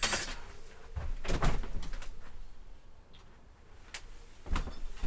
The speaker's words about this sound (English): If I put my headphones down and walk over to the door, open the curtains,